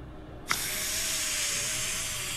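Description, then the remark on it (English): An asthma inhaler puff by a burly bald man with a breathing problem at a restaurant table: a sudden burst of bright, airy spray hiss that cuts in after a quiet moment and holds steady, with no voices. “He sucks on an inhaler.”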